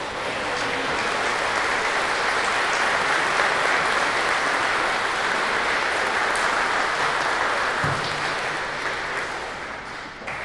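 A large crowd at a cathedral service on Mother's Day applauds steadily for the mothers standing up, a dense wash of clapping that holds for about ten seconds before easing slightly at the end, with no one speaking over it.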